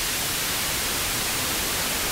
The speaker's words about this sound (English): There's also a signal generator built in that we can use to produce tones and noise. We'll select white noise here and start it up.